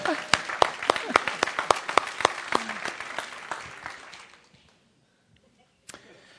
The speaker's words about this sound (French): Bon, ça, vous n'êtes pas assez excité, là. Je pense qu'on devrait avoir les applaudissements au Seigneur, là.